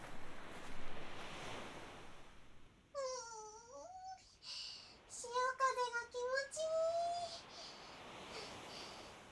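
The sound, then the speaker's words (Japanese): Steady ocean surf washes and swells across the whole recording at a secluded beach where no people come, with a brief run of high, wavering bird-like calls in the middle, all outdoors with no one talking. “さあ行きましょう。海が私たちを待っています。”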